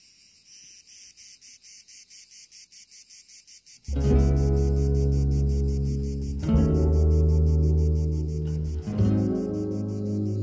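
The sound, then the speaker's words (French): Cicadas chirp on a fine summer day in the south, in a steady, rapid pulsing rhythm, alone at first, then continuing high above loud, bass-heavy music that suddenly comes in partway through. “C'est une belle journée. Dans le sud de l'été, les cigales, les cyprès, les citronniers.”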